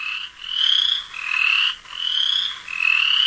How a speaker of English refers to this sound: I have like an endless supply here of frog mating calls. There's a lot of frog mating calls. Western chorus.